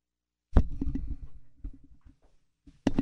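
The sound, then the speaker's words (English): A tongue-shaped logo sticker slapped onto a microphone: a sharp, loud thump followed by a second of rustling, crinkly handling noise that fades, then another heavy bump at the end. No one speaks. “That was a tongue I slapped on my mic.”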